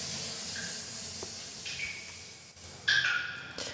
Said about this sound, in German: Aber die Tropfen sind noch zu hören.